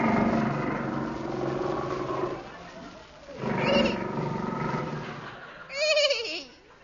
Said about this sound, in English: What was that noise, my captain? A man-eating tiger. Tiger? Yes.